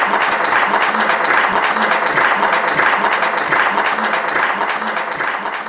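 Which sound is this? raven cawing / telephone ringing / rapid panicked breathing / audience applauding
audience applauding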